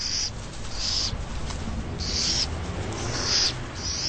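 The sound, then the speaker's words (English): An owl calls over and over, about five short, high bursts evenly spaced against a steady hiss of outdoor background noise, with no voices present. “The owls can raise anything from 1 to 12 chicks in a summer season.”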